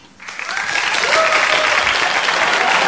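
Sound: studio audience applause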